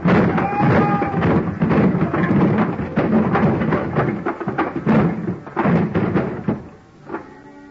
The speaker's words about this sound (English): I grabbed a heavy, empty dolly, gave it a flying start, and sent it crashing into the bottom box of the pile. It was beautiful. The biggest crash since 29.